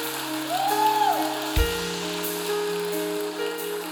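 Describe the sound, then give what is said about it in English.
A church audience claps to the Lord on Easter Sunday in a dense, continuous patter, with sustained keyboard tones held underneath and a low thump partway through. “Let's clap to the Lord here. Let's clap, all right?”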